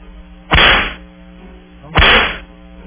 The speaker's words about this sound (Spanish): Y démosle los latigazos